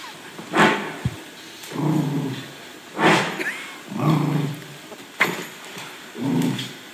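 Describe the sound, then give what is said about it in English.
A female dog scratches at the corner of a couch arm in three short, rough bursts spaced a couple of seconds apart, each followed by a low, rumbling vocal sound, with faint snuffling breaths between and sniffing at the end. “That's her, that's like, her scratching. Scratching at the corner.”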